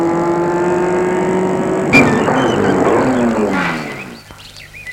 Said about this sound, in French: Il a arrêté sa voiture devant le portail.